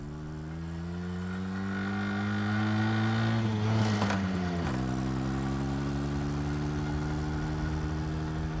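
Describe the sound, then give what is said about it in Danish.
A moped engine runs steadily as a boy rides it slowly past shops in a town, humming at a low idle, briefly revving higher partway through before dropping back to its even putter. No voices are heard. “Han kan stadigvæk nå at vende knallerten og køre hjem til Holbæk.”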